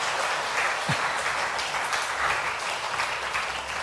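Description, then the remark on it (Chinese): A crowd applauds as people are called up to the front one by one, a dense wash of many hands clapping at once, loud and sustained for several seconds with no voices standing out. “我们拍手哈，啊。”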